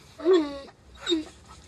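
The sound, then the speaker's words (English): A dog whimpers twice in close succession, each high whine sliding downward, with soft panting breaths between them, moderately loud. “Look what you did, stupid. That's exactly why I don't like you dogs.”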